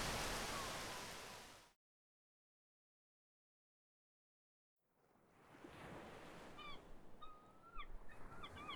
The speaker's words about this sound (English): The far-off call of gulls on the wind stirs Ochako from her sleep that next morning.